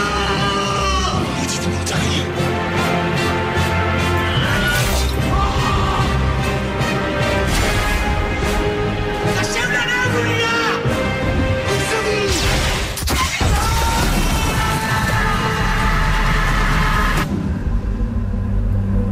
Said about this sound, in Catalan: Què és aquesta pel·lícula? I explosions i molts crits.